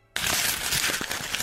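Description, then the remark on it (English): Paper is crumpled loudly and continuously as a rocket launch sound effect, starting abruptly after a brief silence. The dense crackling blends into a rushing, roaring hiss like a rocket launch, with no voices. “A rocket launch. And the rocket launch is made with crumpling paper, which seems so anticlimactic.”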